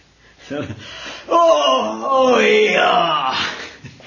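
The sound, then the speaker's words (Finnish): A person imitates a huge, tremendous yawn with their voice, a loud, drawn-out groaning sound lasting a couple of seconds after a brief intake of breath, sliding in pitch before trailing off. “Se oli tosi väsyttävä, mä myönnän sen, ja mun viereinen kaveri ei jaksanut sitten enää, sen pokka petti ja se päästi sellaisen oikein julmetunmoisen haukotuksen.”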